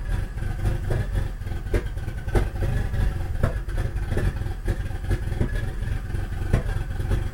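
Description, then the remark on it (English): An untuned turbocharged 3.8-liter V6 car engine with stage 2 cams and a T67 turbo idles with an open downpipe, muffler pipes not connected: loud, rough, deep throaty rumble with irregular popping pulses, steady throughout with no talking. “So the car is just idling and it hasn't been tuned, and it has an open downpipe, so the muffler pipes are not connected.”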